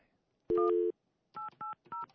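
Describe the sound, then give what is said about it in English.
A phone number is punched in on a keypad to call an interview guest in St. Charles, Missouri: one longer tone, then three short, clear touch-tone beeps in quick succession, loud with no one talking. “Let's see if we can get her on the phone.”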